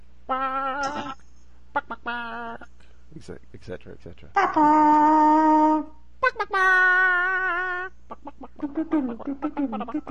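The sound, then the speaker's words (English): A voice imitates a clucking chicken, squawking its way through a film theme tune with short clucks and longer wavering notes, loud with brief pauses between phrases. “especially the Phantom Menace theme tune that I cluck my way through, I thought was quite funny”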